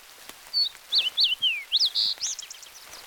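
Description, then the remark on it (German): A bird sings a quick series of bright, high chirps and sliding whistles, clear, over a quiet background with no one speaking. “Richten Sie Ihre Aufmerksamkeit jetzt auf das Geräusch der Vögel.”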